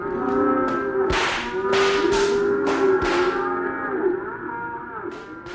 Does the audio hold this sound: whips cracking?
yes